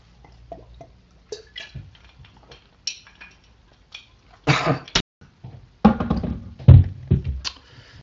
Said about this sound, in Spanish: Voy a tomar un poquito de agua porque la garganta está aquí.